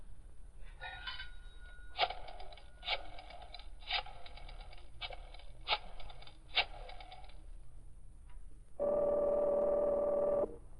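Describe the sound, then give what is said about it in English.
A telephone being dialed by Britt Reed, the Green Hornet, who has stopped on a drive across the city to make a call, with a series of sharp, evenly spaced clicks, followed by a steady buzzing tone from the line. No one speaks, and faint background hiss runs throughout. “On the way, Britt Reed stopped to make a phone call, first removing his Green Hornet mask.”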